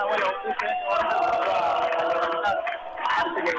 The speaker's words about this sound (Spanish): Sí, te escuchamos bien, escuchamos bullicio por ahí, sí. En la puerta, en la esquina de la casa donde está Cristina Kirchner. Exactamente.